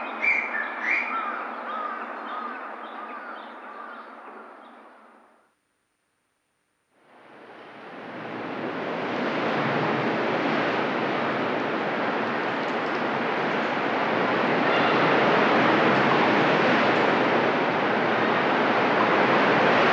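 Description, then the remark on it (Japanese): Rough sea waves roar against the shore of an uninhabited island near Tobishima, Japan, in a loud, continuous wash that swells steadily, following a few seconds of chirping birds over a softer hiss and a brief silent gap. “この日、飛島付近は50センチにも満たない穏やかな波でしたが、無人島付近は波が荒く、上陸するだけで一苦労しました。”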